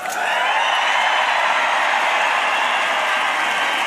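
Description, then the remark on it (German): A large crowd cheers at a royal event in Denmark after King Frederik's motto is spoken, in a steady, unbroken roar that holds at an even, loud level for the full few seconds, with no voices standing out individually. “Und ja, man hört ja diesen Jubel und an diesem Tag waren irgendwie alle so vereint und es war wirklich ein tolles, royales Event, muss ich wirklich sagen.”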